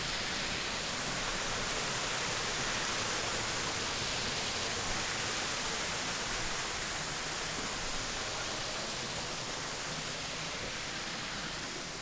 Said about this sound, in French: Petite cascade.